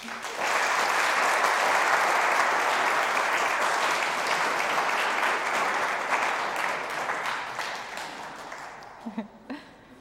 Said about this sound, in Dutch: Zullen we ook even voor deze groep klappen?